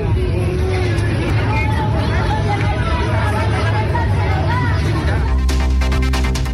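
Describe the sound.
Dense crowd hubbub of worried people evacuated from a building during a fire emergency fills an outdoor street, many overlapping voices murmuring and calling at once, steady and fairly loud, with traffic rumble beneath and a sharper burst of noise near the end.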